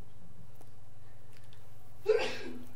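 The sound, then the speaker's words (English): A single sharp sneeze bursts out near the end after a stretch of near silence with a low steady hum, fairly loud, trailing off quickly. “God bless you.”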